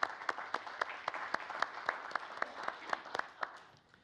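A short burst of applause from a group, with several sharper individual claps punching through at a steady rhythm before the clapping thins out and fades toward the end.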